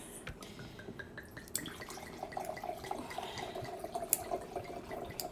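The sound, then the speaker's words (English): Wine pours into a glass in one long, steady stream, a soft gurgling splash whose pitch rises gradually as the glass fills, with no voices over it. “Listen to that long pour.”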